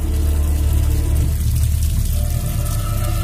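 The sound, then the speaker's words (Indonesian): Water runs steadily from a bathroom tap in a boarding-house room, a continuous rushing hiss with a low, full rumble, fairly loud, with no voices. “Dan dari kamar mandi terdengar suara keran air.”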